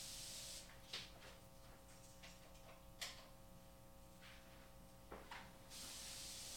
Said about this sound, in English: I can't smell it, but also I'm going to just go spray it. Just to be sure.